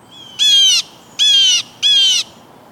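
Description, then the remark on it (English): Three loud, harsh screaming alarm calls from a jay imitating a hawk, each about half a second long, evenly spaced, with a faint background hiss between them. “the jay may mimic the call of a bald eagle or red-tailed hawk, birds at the very top of the pecking order, to dissuade the invader.”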